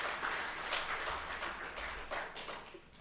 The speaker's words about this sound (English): At this time, we will dismiss our children's church. Y'all give them a round of applause as well.